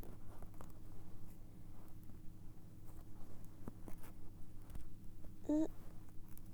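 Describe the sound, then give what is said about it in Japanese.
Quiet scratchy rustling of stretchy tights fabric being pulled and strained by hand in an attempt to tear it, with small intermittent scrapes and a brief high squeak near the end; no clear rip is heard. “手の力だけでいけるのかな。もう破ってもいいタイツなんですけど。”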